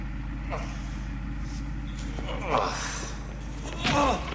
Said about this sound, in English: The car rolls backwards.